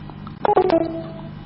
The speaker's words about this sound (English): Oh, you're not picking up the phone, you cocksucker.